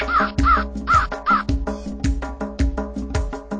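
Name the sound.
crows cawing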